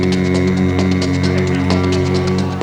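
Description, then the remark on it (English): A voice hums a steady, low mechanical drone with a rhythmic pulsing beat, imitating the throbbing hum of an old washing machine. Loud, it sustains for a few seconds with no spoken words. “Cause the old one really looks like a real live washing machine.”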